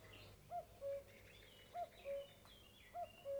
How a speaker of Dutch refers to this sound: De koekoek.